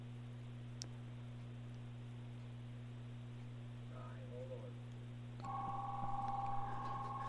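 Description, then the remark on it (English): A telephone ringing tone comes through a phone line as a caller phones in, a steady electronic trill rising out of low line hum near the end, preceded by a faint click and brief tonal chirps. “I hear the phone ringing.”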